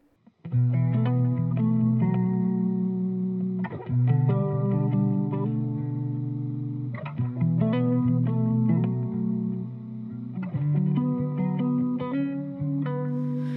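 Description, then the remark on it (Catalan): An album's title track with sustained, effects-laden guitar chords swelling in waves, shifting harmonies every few seconds over a steady low bass. It is loud and continuous, with no voices. “el que farem és escoltar el tema que porta per nom el disc.”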